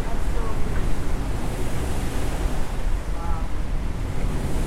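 ocean waves breaking

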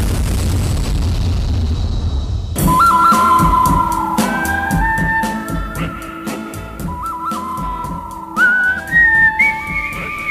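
person whistling a tune

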